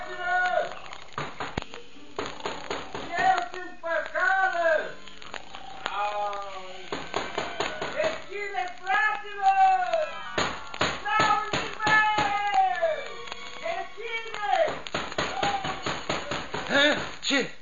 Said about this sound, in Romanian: Frate meu, bate cineva în ușă. Cine-o fie acum la miezul nopții?